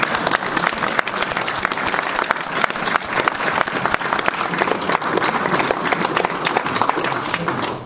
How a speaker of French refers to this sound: Je crois qu'on peut applaudir toutes celles et ceux qui ont contribué à préparer.